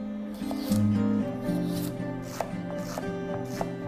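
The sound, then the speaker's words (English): A knife finely chops two stalks of celery on a cutting board for soup, in a handful of crisp, irregularly spaced taps, with steady background music playing underneath. “Chopping the celery into smaller pieces will help it cook faster and melt into the base of the soup.”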